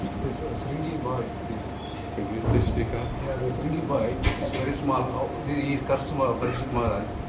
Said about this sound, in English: I can't hear what you're saying. The air conditioner is louder than you are.